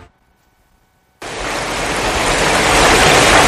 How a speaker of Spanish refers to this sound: Y el sonido de la lluvia no solamente tiene por qué traer agua.